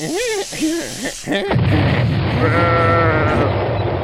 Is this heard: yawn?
no